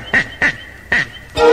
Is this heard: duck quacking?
yes